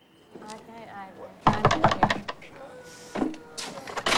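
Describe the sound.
A quick series of sharp knocks on writer's office door number 15 at a film studio, several loud raps in a short burst, with a voice sounding before and after them.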